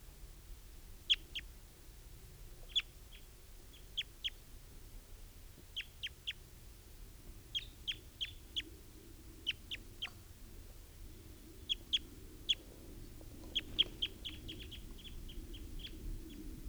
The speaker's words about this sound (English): That's a wild bird, and he's still here. And now, he just flew. He flew to a distant tree.